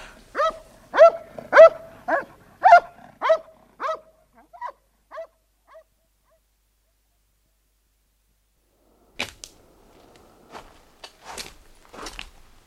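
A dog barks repeatedly in a quick, evenly spaced series that grows fainter and trails off into whimpers, then silence before some soft rustling and clicking noises.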